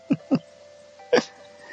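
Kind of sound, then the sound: human body sound, hiccup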